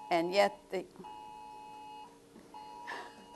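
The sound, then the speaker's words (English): An Amber Alert emergency phone alert tone sounds as two long, steady electronic blasts with a brief gap between them, while a person talks before and over the second one. “Is that a fire alarm? We get Amber Alerts.”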